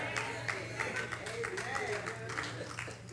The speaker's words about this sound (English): Thank you for the sad hand clap, but it is true anyway.